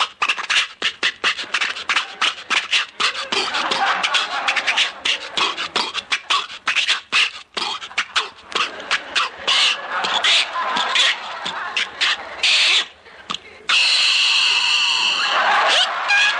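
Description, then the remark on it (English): Mel Blanc's voice imitates Jack Benny's dilapidated old car, the Maxwell: rapid sputtering, coughing bursts and wheezy rattles, ending in a long strained, squealing whine, loud throughout with no other talking. “Here he is providing the sound effect for Jack's dilapidated car, the Maxwell.”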